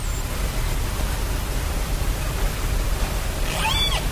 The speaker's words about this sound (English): That is sound recorded with equipment placed underwater near the busy shipping lanes off Vancouver Island in Canada.